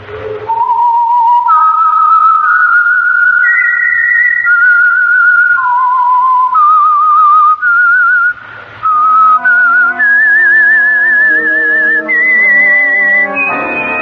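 A lone whistled melody with a slight vibrato, the signature whistle of the Signal Oil Program radio show The Whistler, moving stepwise through sustained notes, joined partway by a soft orchestral backing that carries it to the end. Loud, no talking.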